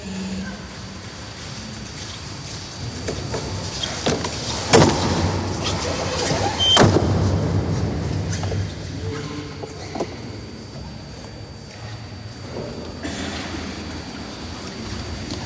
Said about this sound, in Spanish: Acaba de quedar cerrada la puerta de la Capilla Sixtina.